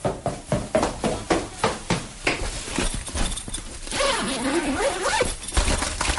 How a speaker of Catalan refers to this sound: Algú baixa unes escales, corrent, agafa unes claus, obre una cremallera, agafa el que sembla un paper, obre una porta i se'n va.